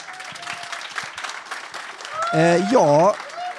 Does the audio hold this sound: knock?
no